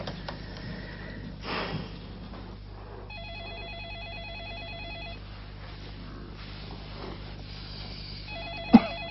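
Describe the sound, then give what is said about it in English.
A telephone rings with a warbling electronic tone, one long burst and then a second that starts near the end, against a quiet hum with a faint breath and a sharp click. “Why don't you answer the damn phone?”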